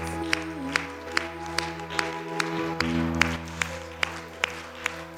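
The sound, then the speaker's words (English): An audience claps their hands in praise of Jesus during a church worship service, sharp regular claps in a steady, rhythmic beat over sustained keyboard chords and a low musical drone, with no talking. “Why don't you clap your hands? He's worthy of praise.”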